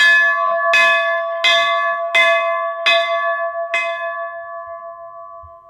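church bell ringing

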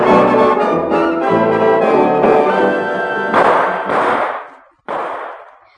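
gunshots

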